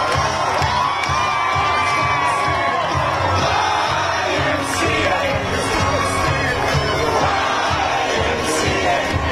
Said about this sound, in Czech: Davy příznivců demokratického kandidáta oslavují i ve Filadelfii, která leží ve státě Pensylvánie.